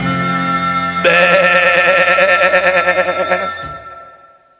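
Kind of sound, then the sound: animal, sheep bleating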